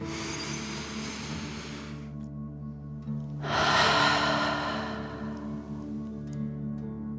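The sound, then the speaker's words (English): A slow, deep breath drawn in through the nose, then after a short pause a longer, louder exhale out through the mouth, over a soft sustained musical drone, as a relaxation breathing exercise. “Breathe in through your nose, filling up your belly, and then out through your mouth, pretending you are breathing fire.”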